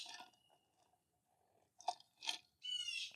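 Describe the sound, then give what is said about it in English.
A bird squawks outdoors out on the water in three harsh, raspy bursts, the last one longest and most strained, loud over a quiet background with no one talking. “I'm out here on the water, and of course, we got some fucking bird squawking.”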